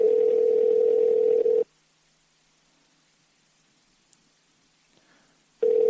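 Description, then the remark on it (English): A phone's outgoing ringback tone: a steady electronic buzz-tone rings clearly, falls silent for about four seconds, then starts ringing again. No one speaks. “So let's see if he answers the phone.”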